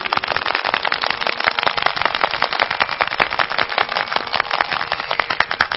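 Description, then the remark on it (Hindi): An assembled gathering claps loudly and steadily with both hands to honor those being recognized, a dense, crackling wash of many hands that keeps an even intensity for about six seconds with no voices. “इन सभी के संपूर्ण फरिश्ता पद की प्राप्ति के उपलक्ष में आप सभी उपस्थित ब्राह्मण कुलभूषण आत्माएं जोर से दोनों हाथ की तालियां बजाकर इनका सम्मान कीजिए।”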